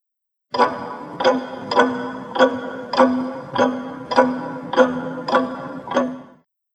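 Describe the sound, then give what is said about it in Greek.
A clock ticks steadily and loudly, about nine evenly spaced strikes, each with a metallic ring that hangs briefly before the next, with no voices. “Δείκτες δρολογιού.”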